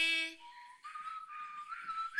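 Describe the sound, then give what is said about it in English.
Someone whistles a short, wavering melody, the thin tone sliding between notes with audible breathy air noise, and no talking. “Who's doing the whistling?”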